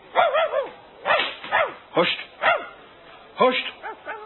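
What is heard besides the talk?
dog barking and whimpering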